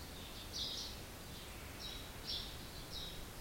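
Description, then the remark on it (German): Birds chirp faintly outdoors, a handful of short, high twittering bursts repeating loosely over a soft, steady background hiss, with no voices present. “Können auch das Vogelgezwitscher draußen wahrnehmen.”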